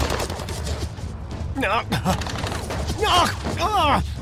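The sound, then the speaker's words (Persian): Rapid bursts of gunfire crack out repeatedly in a dense volley during an ambush, while voices shout over the shots amid a rumbling, chaotic background. “برش کن، باید دوباره شلیک کنیم.”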